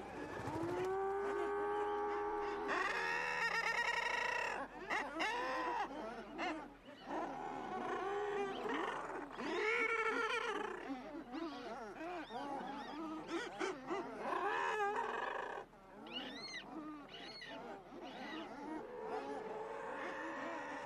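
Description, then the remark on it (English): A guillemot colony calling together on cliff ledges: a loud, dense chorus of overlapping growling, laugh-like cries that swell and fall in rolling waves without pause, with no voices. “But in doing so, they produce these really beautiful waves of rolling laughter.”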